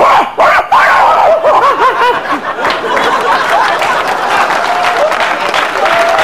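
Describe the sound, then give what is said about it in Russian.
A pet dog named Artamon yelps and whines excitedly, a quick run of high, wavering cries over a steady, crackly background noise. “Это вот собака моя, Артамон, ну уже, наверное, знакомый, у вас там похожий менталитет.”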